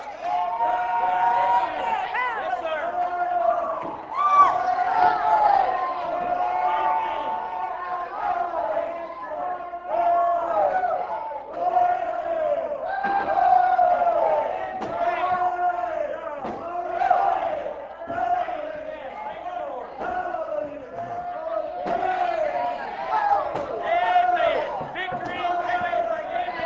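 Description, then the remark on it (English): A crowd of many voices shouts and yells together continuously, a dense, loud wall of overlapping cries that swells and dips in waves without a break. “People are pointing and shout.”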